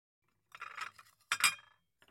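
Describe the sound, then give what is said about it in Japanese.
A ceramic plate is set down, giving two bright clinks with a light scrape between them, then a faint tap as it settles, with no voices. “はい、お皿です。”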